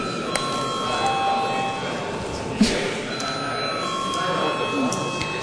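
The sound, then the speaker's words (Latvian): A parliament voting call bell rings steadily for several seconds, called before a vote on the fourth proposal, a continuous high metallic tone with a faint hum of voices underneath. “Deputāti, lūdzu balsojumu arī par 4. priekšlikumu lūdzu zvanu.”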